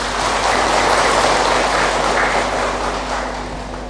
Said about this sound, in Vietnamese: Nếu các quý Phật tử thấy rằng là việc bỏ tánh khó chịu để có được cái quan hệ và hạnh phúc là làm được á, Xin quý vị dành một tràng pháo tay thật lớn để cam kết.